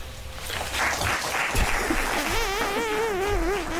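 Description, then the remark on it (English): Sparse, polite golf-clap applause from an audience that is not standing: a thin patter of scattered claps throughout, with a wavering, warbling whistle-like tone rising over it in the second half. “Small golf clap.”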